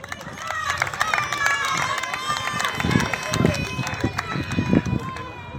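A crowd applauds steadily with dense, continuous clapping, mixed with scattered cheers and a few whistles, sustained at an even level throughout, at the close of the plateau roquois, a day of refereed matches.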